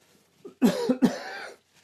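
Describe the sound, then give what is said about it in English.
A couple of forceful coughs in quick succession, loud and raspy, with a brief throat sound just before and no talking. “But I am going to cough.”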